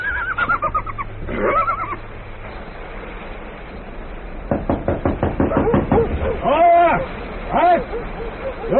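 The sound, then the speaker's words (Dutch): A quick run of sharp knocks, about ten in a rapid drumming rhythm, raps on the wooden door of an inn in the rain. Voices speak before the knocking and call out loudly just after it. “Geef maar een roffel op de deur, net als de vorige keer,”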